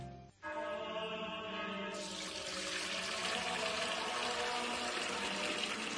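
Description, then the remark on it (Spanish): Steady running water, Fuente Umbría spring water, pours into a container, a continuous splashing stream that briefly pauses near the start, then grows brighter and fuller as it keeps filling, with no voices. “Padre Gilberto, ¿qué hace? Hermano Pedro, es que no nos quedaba agua bendita. Agua pura de manantial Fuente Umbría.”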